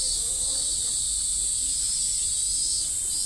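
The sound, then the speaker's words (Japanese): A steady, dense wall of cicada buzzing, recorded on 3 August 2022, fills the background without a break, a continuous high shimmering drone with faint low rumble underneath and no speech. “2022年8月3日水曜日、セミがですね、結構鳴いてないと思ったので、声まで来たら結構鳴いてますね。”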